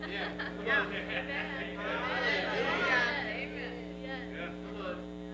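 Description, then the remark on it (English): A crowd of many overlapping voices chattering at once, a steady murmur that swells louder in the middle before easing slightly, with no single voice standing out, over a constant low hum. “I hear a crowd. What's all the ruckus?”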